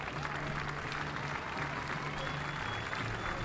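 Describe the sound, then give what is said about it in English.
Light, steady applause from a baseball stadium crowd as pitcher Carlos Jimenez is carted off the field after a line drive hit his leg, a continuous patter of clapping at moderate volume with a low hum underneath, no single claps standing out. “Light applause from the crowd here as Carlos Jimenez is carted off the field, hit in the leg by a comebacker, a line drive off the bat of Austin Hendrick.”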